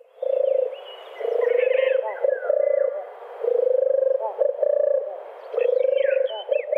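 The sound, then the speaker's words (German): A dove coos in a series of low, purring notes, each a second or so long, while other birds chirp and whistle at higher pitch between and over the coos. “Also der Name dieser Art leitet sich von diesem gurrenden Gesang ab. Und das ist eine, ja, wunderschöne Taubenart.”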